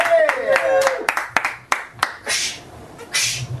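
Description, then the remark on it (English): A sound-effect round of applause from the game Show Me That: a handful of sharp, irregular claps, mixed at the start with a falling, whiny tone and ending in two hissy bursts of crowd-like noise. “And this is Show Me That sound effect after a warm round of applause.”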